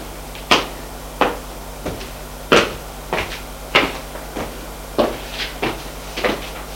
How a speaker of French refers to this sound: Frappe à la porte.